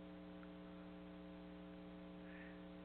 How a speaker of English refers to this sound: I got me a big tower fan next to the air conditioner thing.